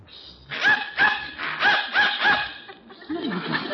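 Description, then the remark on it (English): A dog lets out a quick series of five or six sharp, yappy barks in close rhythm, then a short rising whine-like sound at the end, in response to a dog whistle that humans cannot hear. “Dog heard it, but I didn't.”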